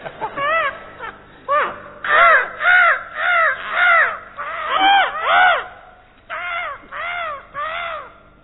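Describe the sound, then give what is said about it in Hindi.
A jungle crow caws loudly and repeatedly, harsh arched calls in irregular bursts of two to four, with short pauses between groups, clear with no talking. “कोयल, कोयल का भाई कौआ, ये जंगली कौआ है।”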